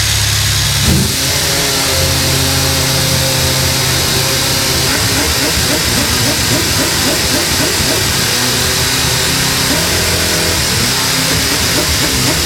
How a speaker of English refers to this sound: Well, here is the car being started up for the very first time.